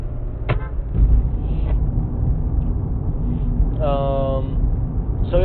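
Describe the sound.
A steady low rumble of a car driving in heavy road traffic, with a few brief tonal bursts from other vehicles or voices cutting in over the constant road noise.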